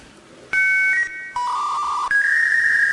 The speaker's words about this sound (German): Was ist der Einwahlsound von einem Modem? Welche Geschwindigkeit? Ich würde raten 56k.